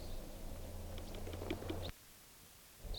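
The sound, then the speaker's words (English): Faint, short chip-like flight calls of two type 2 red crossbills flying right overhead, a loose series of high notes over a steady low hum, with a final call after the hum cuts out. “Two crossbills, type 2s, just flew right over.”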